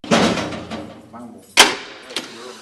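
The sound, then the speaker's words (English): A heavy metal prison door at the Oregon State Penitentiary in Salem grinds and rattles, then slams shut with one loud clang, followed by a softer knock as the sound dies away. “He takes me through a maze of hallways and metal doors, up a flight of stairs,”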